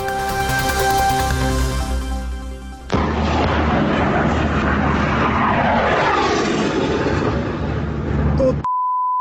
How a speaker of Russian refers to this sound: Самолеты над головой, прикинь, летают, истребители.